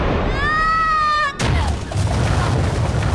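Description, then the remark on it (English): A sustained metallic ring gives way to a sudden loud crash as a woman, struck by a final sword blow, slams back into a pile of scrolls, followed by a dense, continuing rustle and clatter of tumbling objects. “One final blow of his sword sends her crashing back into the scrolls.”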